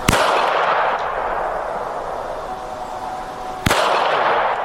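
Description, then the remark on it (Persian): Sharp gunshots crack out at a protest in Iran, one at the start, a fainter one soon after and another near the end, over a constant roar of outdoor crowd noise. “ایجاد جو امنیتی، ضرب و شتم و شلیک مستقیم تنها پاسخ حکومت ایران به اعتراضاتی است که حالا بیش از یک ماه از عمر آن می‌گذرد.”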